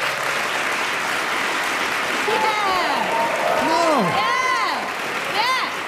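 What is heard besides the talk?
audience applause and cheering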